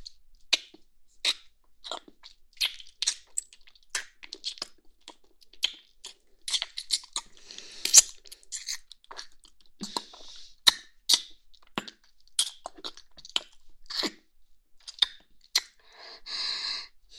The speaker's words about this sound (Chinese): 当然是想亲亲我的宝贝了。来，让妈妈亲亲你。